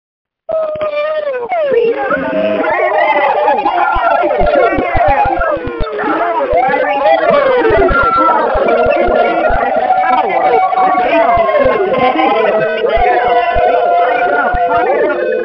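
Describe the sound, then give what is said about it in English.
Many callers yell and cheer at once over unmuted phone lines in a loud, continuous jumble of rising and falling shouts, with a thin, band-limited phone-line quality throughout. “And if it pumps you up, I want to hear you screaming to the phone as I unmute the lines right now.”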